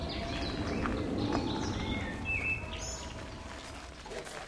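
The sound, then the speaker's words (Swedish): Several songbirds sing at once outdoors: a willow warbler, a chaffinch and a blackbird, their overlapping phrases and whistles rising over a steady low rumble, with faint rock music coming from a stadium. “Lövsångare, bofink och koltrast alltså, blandat med lite rockmusik från stadion.”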